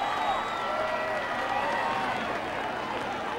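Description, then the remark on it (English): A large crowd at a New Year celebration cheers and claps steadily, a dense wash of overlapping voices and applause holding at an even, loud level for a few seconds without a break. “Steve waves at the crowd.”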